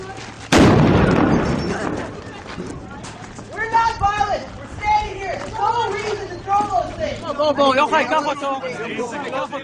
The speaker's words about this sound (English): when Israeli soldiers abruptly fired concussion grenades into the peaceful crowd. They broke the windshield of the professor's car, but he is okay.